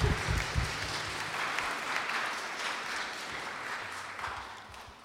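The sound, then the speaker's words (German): An audience claps steadily for several seconds to welcome a guest speaker, a dense, sustained patter of many hands that holds at an even level and tapers slightly near the end. No one speaks over it. “So give him a clap of welcome.”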